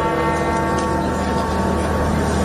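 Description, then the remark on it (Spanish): Church bells in St. Peter's Square ring out loudly and continuously at midday in memory of the Pope, their overlapping metallic tones humming together in a steady, resonant wash with no voices present. “Son las campanas que han sonado este mediodía en recuerdo al Papa.”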